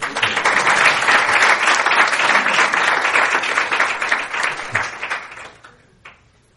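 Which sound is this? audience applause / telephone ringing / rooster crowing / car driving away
audience applause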